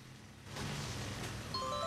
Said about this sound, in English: Her mobile goes off with a text.